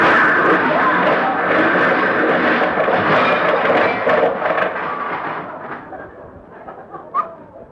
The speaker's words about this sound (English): Oh, my goodness, we hit Mr. Freeman's car.